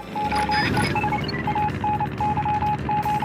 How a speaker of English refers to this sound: These sounds are actually Morse code. A total of 3 messages can be interpreted, translating to, "Morse code takes forever."